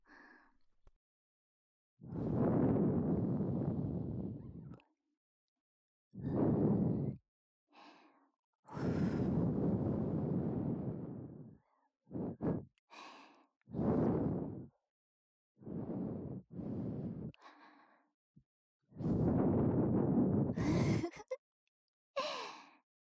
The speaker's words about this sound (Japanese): くすぐったいかな。少しこうやって、吐息で汚れを飛ばしていくからね。